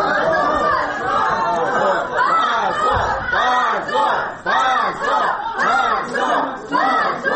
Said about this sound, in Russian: Десятки человек, среди которых были родители, друзья подсудимых, а также группа активистов, приехавшая накануне из Москвы, встретила такое решение криками «Позор! Свободу политзаключенным!».